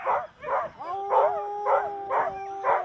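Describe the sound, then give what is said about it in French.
Sled dogs, Siberian huskies, bark in a steady run of loud, evenly spaced yelps while a long, wavering howl rises and holds beneath them, with no talking. “Trois de ces chiens se reposent sous les yeux de leur maître. Ce sont des Sibériens, huskies de Sibérie.”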